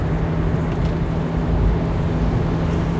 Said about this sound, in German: Ich möchte bei dem ganzen Wind und Regen und Nass hier einfach nicht zu schnell unterwegs sein. Ich fahre jetzt auch nicht langsamer als erlaubt.